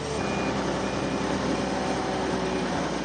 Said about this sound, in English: Throughout the week, Russians have been watching scenes like this on the evening news. A truck dumps hundreds of big loaves and wheels of cheese into the dirt, where they're duly pulverized by a highway rolling machine.